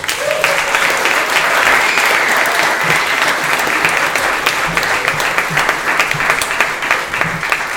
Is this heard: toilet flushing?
no